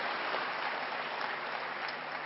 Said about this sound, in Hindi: इसलिए आप जो बैठे हुए हैं पेशेंस से सुन रहे हैं, आप अंदर की ओर भागे, कितना अच्छा है, इसलिए आपके लिए तालियां बजवा रहे हैं।